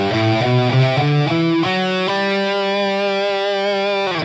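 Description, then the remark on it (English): An electric guitar played through a Hughes and Kentner setup plays a quick stepwise run of G major scale notes, then rings out on one long sustained note, with echoing delay and reverb trailing each tone. No one speaks. “And you'll notice I have a little bit of delay on my guitar, a little bit of reverb, some things like that.”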